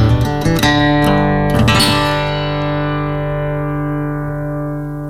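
A rock band hits a few last staccato chords, then a final loud distorted guitar chord rings out and slowly decays over several seconds, with no voices.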